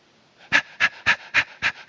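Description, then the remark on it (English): A voice imitates a little dog panting excitedly as it is let out of its kennel: six quick, breathy huffs in a steady rapid rhythm, fairly loud, after a brief quiet start. “You know, like you get a little dog and you go like around the block and they're just, you get them out of their kennel and they're just like, that's passions.”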